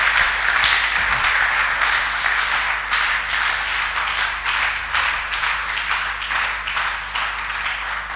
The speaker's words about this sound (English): Are you clapping for the Lord or clapping for yourself?